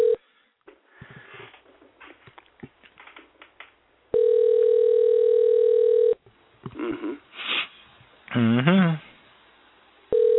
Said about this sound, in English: Uh-oh. He might be busy. Maybe he can't hear the phone ring. He must be busy